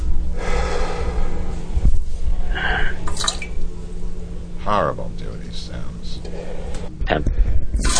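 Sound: heavy breathing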